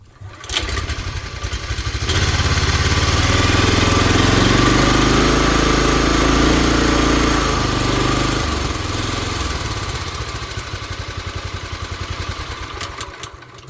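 A motor engine sputters into life, then runs with a loud, steady, low rumbling drone that swells slightly and eases off again before ending in a choppy putter. No one speaks.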